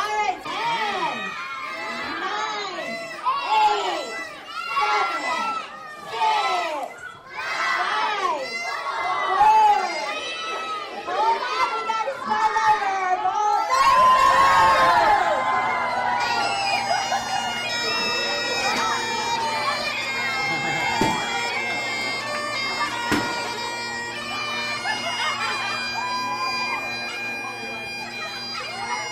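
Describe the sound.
Children's voices shout a New Year countdown a few seconds before noon in loud, evenly spaced bursts, then break into a roar of cheering, which gives way to excited chatter over a steady, tonal background.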